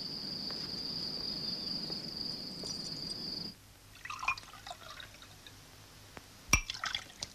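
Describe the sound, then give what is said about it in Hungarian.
Wine pours steadily into a glass for a few seconds, then stops, followed by small liquid drips and a sharp glass clink. No one speaks. “Jöjjön, azért még megiszunk egy pohár bort.”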